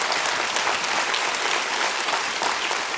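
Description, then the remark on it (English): A steady burst of applause from many hands, dense crackling claps filling the whole three seconds at an even, fairly loud level with no voices. “I wish I had a hand clap.”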